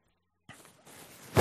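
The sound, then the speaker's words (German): A short nose-blowing sequence: a soft rustle, then a stretch of breathy, hissing airflow, ending in one loud, forceful honk-like blast. No one speaks. “Jesus hat eine Fähigkeit, die Nase putzen.”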